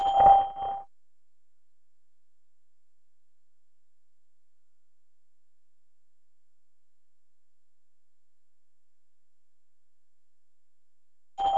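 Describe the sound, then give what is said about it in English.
A short electronic beep from the Skype testing service sounds, then about ten seconds of complete silence for leaving a message, then a second identical beep at the end. Both tones are steady and mid-pitched. “Please leave a message during 10 seconds after the beep, and the message will be played back to you.”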